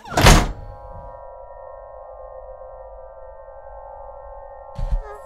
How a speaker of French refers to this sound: Alors, quand on ferme la porte, on n'entendra plus les bruits extérieurs. Je vais fermer la porte d'ailleurs tout de suite.